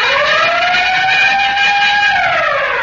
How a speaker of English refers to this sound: Say, Ray, could we have that siren and bell again?